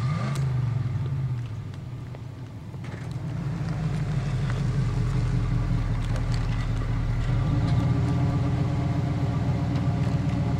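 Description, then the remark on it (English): A car engine idles steadily, a continuous low rumble that dips briefly and then settles back into its even, throbbing drone with faint clicks and rattles on top. “Kill the engine.”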